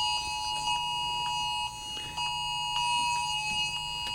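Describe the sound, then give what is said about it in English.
Weather alert (EAS) alarms blaring together on phones in Illinois, a steady layered electronic tone with harsh harmonics and a pulsing rhythm, loud, briefly dipping halfway through before resuming. No one speaks. “That's our phones. So the weather alarms are going off for us over in Illinois.”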